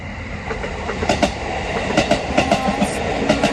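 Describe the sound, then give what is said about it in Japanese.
A train on the line toward Kusatsu Onsen in Gunma, Japan, bound for Shin-Maebashi, rumbles along the tracks with a steady low roar, overlaid by repeated rhythmic clicks and clacks of wheels over rail joints, moderately loud, with no voices. “お、カタンカタン。 来た。来たね。”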